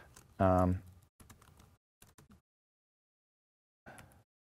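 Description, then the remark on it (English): Slow typing on a computer keyboard while editing a script for Git GUI and Git shell: a few soft clicks in small clusters separated by long silent gaps, following a brief hummed voice sound at the start. “Slow typing here.”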